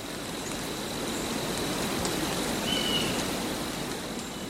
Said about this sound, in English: And side two was gentle rain in a pine forest.